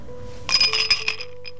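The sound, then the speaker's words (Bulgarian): Ice cubes clink against a glass several times in quick succession in a song, bright, with a faint ringing tone after the strikes that fades out. “Чу ли купчето в чашата?”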